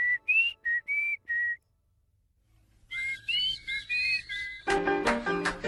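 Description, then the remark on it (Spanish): Someone whistles a tune in short, clear notes while getting into a pickup truck, pauses for about a second, then whistles another phrase before a denser burst of sound takes over at the end. “Y se subió a la camioneta silbando la canción del pito.”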